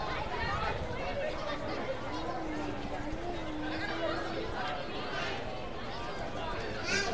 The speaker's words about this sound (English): Good-sized crowd here at the Dean on a beautiful, thirsty Thursday evening.